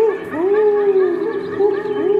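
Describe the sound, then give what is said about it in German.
A human voice imitating an owl's call into a microphone at a children's show by the Australian Polyglot Theatre, looped into the live soundtrack: loud, sustained hooting tones that swell and dip in pitch in a steady, wavering rhythm, with no talking. “Und als mein Eulenruf dann im Raum erschallt, da fühle ich mich für einen Moment sehr glücklich und hoffnungsvoll.”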